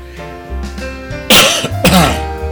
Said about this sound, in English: Excuse me. Clear my throat here.